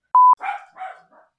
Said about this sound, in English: Donut's little... It's a dog.